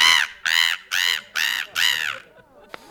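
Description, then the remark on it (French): A person imitates a seagull with five loud, nasal squawking calls in a steady, evenly spaced series, with no talking, then trails off into quiet. “Moi, je fais le mouette.”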